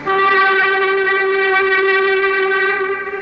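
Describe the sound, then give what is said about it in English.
A metro train in the Mayakovsky station of the Moscow metro sounds its signal to workmen to clear the track: one loud, steady horn tone held unbroken for about three seconds, rich and buzzy with a mid pitch and no voices. “Standing in the Maikovsky station of the metro under the heart of Moscow, a waiting train signals to workmen in the subway to clear the track.”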